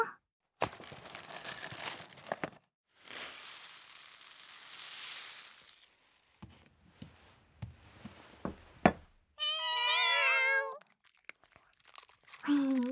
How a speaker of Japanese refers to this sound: 猫ちゃんってよくゴロゴロしながら餌をねだってくるんですよ。